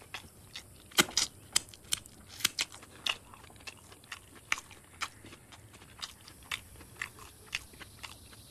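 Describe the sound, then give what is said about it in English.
Crisp munching with irregular crunchy bites and wet chewing clicks, repeating steadily for several seconds against a quiet background, as a man eats a large quantity of food and licks his fingers. “licks his fingers and carries on munching, seemingly unaware of the strained atmosphere.”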